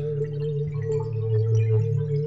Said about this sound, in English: and this guy's problem, he makes a sound all the time. All the time he makes this little squeaky sound. No one knows why or how he does it. He just does.